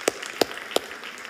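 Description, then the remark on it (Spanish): Three sharp, separate hand claps, given as applause in the name of the Lord, spaced evenly about a third of a second apart, fairly soft, with a faint hiss of background noise between them and no voices. “Vamos a aplaudir todos bien fuerte en el nombre del Señor.”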